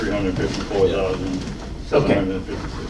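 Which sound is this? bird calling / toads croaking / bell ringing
bird calling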